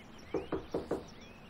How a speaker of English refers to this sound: Daytime. Susan approaches Caroline's front door and knocks.